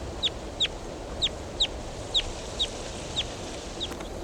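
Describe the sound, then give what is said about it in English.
A wild bird calls in a run of about eight sharp, high chirps at a steady pace, the last ones growing fainter, over a constant background hiss. “There goes a wild bird.”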